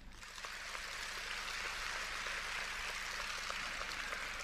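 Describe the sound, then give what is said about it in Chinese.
A crowd breaks into applause on hearing that their finances will improve, a dense, steady patter of many hands clapping that swells within the first half second and holds evenly to the end, with no voices. “哎呀，一听到财运好了就鼓掌了”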